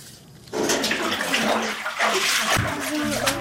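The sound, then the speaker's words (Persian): Children bailing water by hand from under their houses in Farkhor district, Tajikistan, with steady splashing and sloshing that starts abruptly and continues throughout in a busy, uneven rhythm. “سه سال میشود وظیفه این کودکان آبکشی از زیر خانه هایشان است.”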